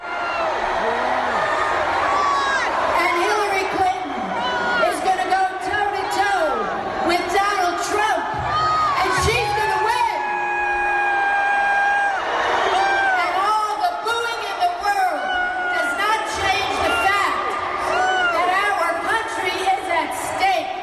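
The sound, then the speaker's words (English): A large crowd of Bernie Sanders supporters boos loudly and continuously during a speech by California Senator Barbara Boxer, a Hillary Clinton surrogate, a dense wall of voices broken by scattered shouts, whoops and sustained jeering tones for the whole stretch. “Now, here's some audio of Bernie Sanders supporters booing during a speech given by a Hillary Clinton surrogate, California Senator Barbara Boxer.”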